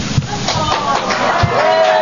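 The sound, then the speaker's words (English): An audience breaks into steady applause, a dense wash of clapping that stays loud for the full two seconds, with a few crowd voices and a thin whistle-like tone rising near the end. “See, I knew that would, that there the applause.”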